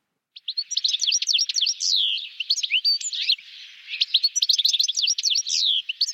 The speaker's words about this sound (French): Alors, vous avez peut-être reconnu le chardonneret élégant.